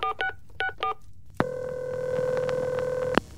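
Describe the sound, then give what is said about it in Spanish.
Four quick touch-tone keypad beeps as a telephone is picked up and dialed in a living room, then a click and a steady electronic line tone that holds for nearly two seconds before cutting off with another click. “volvió a la sala y, desesperado, tomó el teléfono.”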